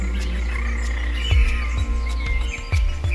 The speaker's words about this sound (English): sitting here, listening to the water run, listening to the sounds of the birds singing out there in the sun.